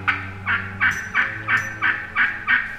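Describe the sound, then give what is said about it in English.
A wild turkey gobbles in a rapid, rattling series of about eight quick bursts, loud, with a low steady hum underneath and no voices. “It was called Turkey Town due to the presence of wild turkeys in the area.”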